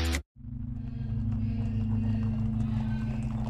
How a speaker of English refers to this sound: It's 1 a.m., and Louis Diemschutz, a jewelry seller, is on his way home in his horse and cart. He can barely see his way through the dark as he turns off the street.